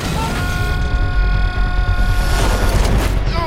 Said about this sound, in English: Mr. Rager draws the pins from several grenades and throws them. An explosion sends a police car flying over Jabari's head. A second explosion hurls him high above the buildings.